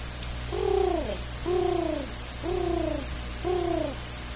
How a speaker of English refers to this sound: Pigeons found a way to the chicken yard quite often.